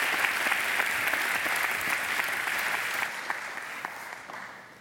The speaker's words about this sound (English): Would you welcome him this morning with a round of applause as he comes?